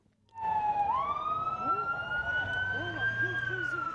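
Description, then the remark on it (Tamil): An ambulance siren wails, its tone sweeping upward after a moment and then holding a steady, piercing pitch over a low rumble of traffic, as ambulances carry people injured in a suicide attack near the Russian embassy in Kabul to hospital. “சம்பவத்தில் காயமடைந்தவர்கள் ஆம்புலன்ஸ் வண்டிகள் மூலம் மருத்துவமனைக்கு கொண்டு செல்லப்பட்டனர்.”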